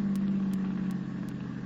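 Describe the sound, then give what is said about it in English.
A car engine hums low and steady as the vehicle rolls along slowly, turning into a sharp driveway in the rain, with faint ticking sounds recurring at even intervals and no voices. “Here, turn in this driveway. Watch it, it's pretty sharp.”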